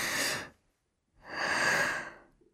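Two audible breaths through the mouth, a short inhale followed after a pause by a longer, airy exhale, fairly soft with no talking.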